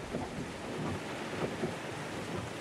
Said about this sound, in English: It was slow going in the driving rain, the windshield wipers working at full speed.